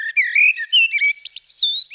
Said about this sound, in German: Die Amsel haben alle schon mal gehört.